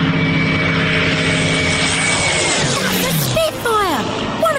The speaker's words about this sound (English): In the Second World War, all the famous aircraft had propellers, and the sound of propellers humming became as well known as the aircraft themselves.